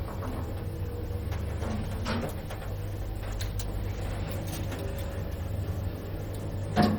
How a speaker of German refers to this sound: Der Aufzug stoppt. Sie zuckt zusammen, die Türen gehen auf,